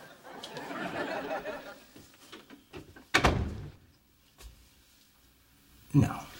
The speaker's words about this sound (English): Close the door on your way out.